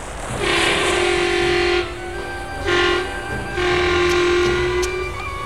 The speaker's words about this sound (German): die Hupe ein zweites Mal betätigte.